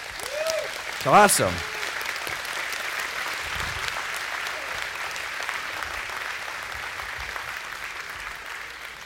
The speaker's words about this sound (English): Whew, that's like a whole bunch of people. It's pretty cool, eh? Yeah, you can clap.